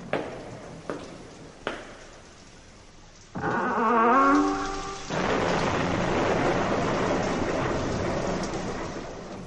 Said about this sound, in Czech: Jedne večeri dođe do strašne nepogode. Grmelo i sevalo sa svih strana. Kiša je lila kao iz kabla. Strahota jedna.